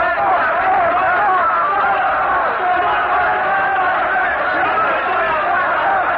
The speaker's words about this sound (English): But the crowd will not be moved. Their frenzied, hysterical shouts are filling the square with a mighty roar of fury, and they're stoning Savonarola now, all turned against the man that they once loved and revered.